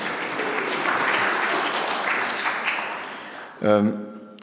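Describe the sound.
An audience applauds to welcome a young woman from Kyiv, steady, dense clapping for about three and a half seconds, then the clapping fades as a voice starts speaking.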